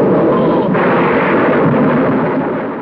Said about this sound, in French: Existe aussi un son d'orage qui est le son du film de Frankenstein, qui est vraiment un son d'orage pourri, dans le sens où il a été enregistré en 1930, il craque, il est pas beau, mais mine de rien, ça reste la caricature du son d'orage.